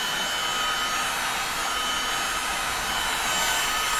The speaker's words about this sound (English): Every time I add a new something or other, whether it's paper or drawing, then it needs to have another layer of wax on top to hold that. And melting each layer with a heat gun really melds the whole thing together so the layers don't fall off.